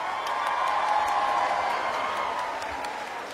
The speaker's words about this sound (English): Come on, let's warm him up. Let's give him a soft round of applause, everyone. Come on, let's warm him up.